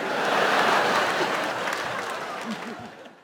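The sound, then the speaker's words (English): A live audience bursts into sustained applause, dense clapping filling the room, with faint scattered voices and laughter mixed in before it slowly tapers off. “What are you applauding?”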